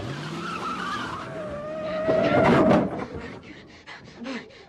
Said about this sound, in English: You just backed over a 2-foot concrete abutment. You didn't even slow down. What were you going about, 45 miles an hour backwards?